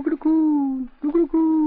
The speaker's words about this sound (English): Sounded like a plain coo to me. I've heard hundreds of pigeons that coo like that.